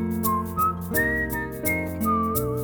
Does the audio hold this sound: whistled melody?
yes